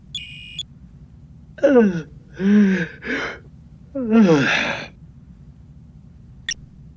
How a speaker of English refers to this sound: At 0100, however, he finally looked away from his work long enough to yawn.